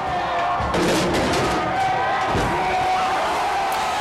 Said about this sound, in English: Boisterous cheering from a lively crowd of protesters in Bristol as the statue of slave trader Edward Colston splashes into the water off the docks.